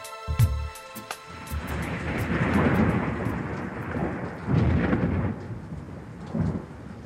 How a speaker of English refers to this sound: The storm crashed upon me.